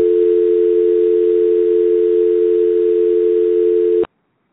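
telephone beep tone

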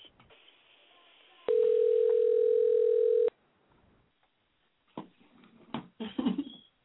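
phone call ringing out

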